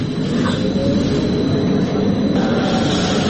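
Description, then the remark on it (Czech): A line 2 tram fitted out for HIV testing rumbles steadily along its rails, a loud continuous low drone with rattling and a faint high whine, no voices heard. “Ovaj tramvaj na liniji broj 2 ni izgledom ni namenom ne podsjeća na obično javno prometalo na šinama.”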